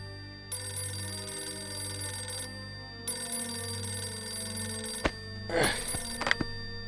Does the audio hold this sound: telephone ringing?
yes